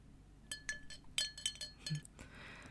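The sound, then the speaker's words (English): Several small, bright glass clinks, as a little glass bottle is tapped and handled, ring out crisp in an irregular series over a quiet background. “I've got a little glass bottle just for you.”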